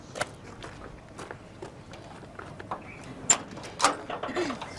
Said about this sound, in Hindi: अरे तो कहिए भी, दरवाजा खटखटा रहा है।